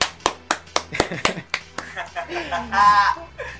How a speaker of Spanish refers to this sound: Aplausos de a uno, gracias. A uno, pero ya los efectos especiales que ya tú me enseñaste ya anteriormente, ya los colocaré.